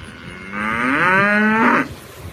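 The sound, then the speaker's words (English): A single loud, drawn-out cow moo lasting over a second, rising slightly in pitch and then cutting off, with no one talking. “Random cow.”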